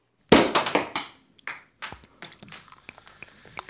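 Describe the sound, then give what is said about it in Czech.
A stuck cork pops out of a bottle as the cartoon Mole (Krtek), helped by Hare and Hedgehog, pulls with a corkscrew: a sharp, loud burst, then a quick flurry of crackling rattles and scattered small taps and clicks that fade out. “Konečně jsme láhev otevřeli!”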